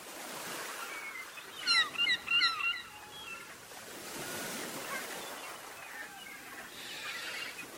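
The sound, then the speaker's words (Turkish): Sea waves wash in soft, hissing surges that swell and fade every few seconds, with a brief burst of high, squeaky chirping calls over the surf early on. “Denizin dalgaları da hemen hemşeki kararsız dalgalardır.”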